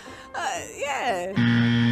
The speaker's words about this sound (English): Oh, that's a firework. Bummer. Firework. The 8-second ride.